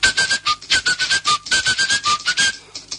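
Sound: person whistling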